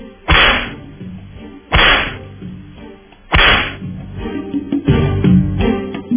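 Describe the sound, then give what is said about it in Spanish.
Three sharp whip cracks ring out at steady intervals, each a loud snapping burst with a short ringing tail, followed by a rumbling, busy swell of sound. “¡Latigazo!”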